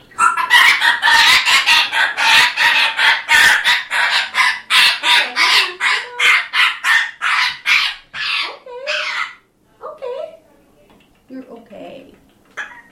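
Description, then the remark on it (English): A gray parrot, wrapped in a towel for its annual exam at a bird and exotic animal clinic in Seattle, squawks in distress, loud and harsh, in a rapid unbroken string of screeches for several seconds before trailing off into a few softer, scattered calls. “Poor gray parrot. That's not the noises we were hoping you would make.”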